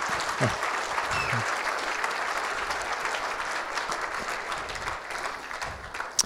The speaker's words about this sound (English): It's usually not the thing that we clap for the producer before we start, but I think we should do it again after it's finished.